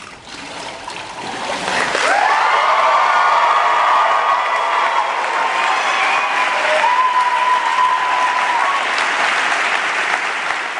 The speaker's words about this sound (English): You actually only need to clap the one time, but it's cool.